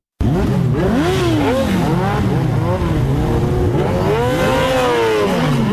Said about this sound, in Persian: صدای اگزاز موتورسایکل های عاشقان سرعت در ولایت هرات است. گروهی از موتورسایکل سواران سنگین وزن با سرعت بیش از 200 کیلومتر در ساعت شارهای هرات را در روزهای تمرین می پیمایند.